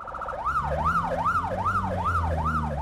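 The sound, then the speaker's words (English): A Johannesburg Metro Police car siren in South Africa wails in a fast, repeating up-and-down pattern, loud, with steady traffic or engine rumble underneath, as police rush to a car crash scene. “Johannesburg Metro Police rushed to another car crash scene.”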